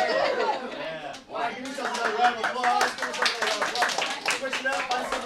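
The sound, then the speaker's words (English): A group of students in a MOPCO improv workshop, competing in pairs to count to three, call out over a scattered, irregular run of sharp claps and finger snaps, with chatter and light laughter mixed in, fairly loud throughout. “Competing in pairs, they count to three with interrupting claps and snaps until the sheer confusion of it all forces them to mess up and celebrate it.”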